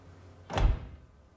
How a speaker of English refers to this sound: slowly enters the room and a glass door shuts behind him.